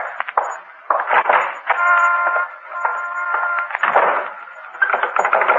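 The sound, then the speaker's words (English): A front door is tried and rattled and found locked: a run of wooden clattering and jiggling, with a buzzy, squeaky creak drawn out in the middle, moderately loud and with no voices. “And now the front door.”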